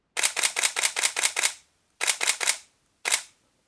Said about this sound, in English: I wasn't surprised to hear that, because I'd heard the shutter during the launch event and found it very pleasing. Let me shoot a few frames here and show you what I mean.